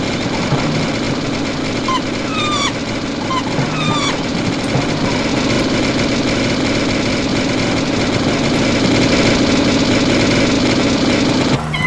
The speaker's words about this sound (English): And here is Gonk's car. You can hear in the background.